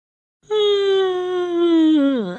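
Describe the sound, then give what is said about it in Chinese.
A long, voiced yawn from a child's voice as the cartoon boy Big Head Son stretches and wakes up at three in the afternoon, fairly loud, holding a steady moaning tone for about two seconds before sliding sharply down at the end, with no other sounds around it. “下午三点钟的时候，大头儿子伸了个懒腰，打个哈欠，终于醒了。”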